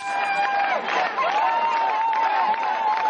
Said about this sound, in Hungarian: Tapssal és örömujjongással ünnepelték az Együtt PMS-ek vasárnap éjszaka a választás eredményét.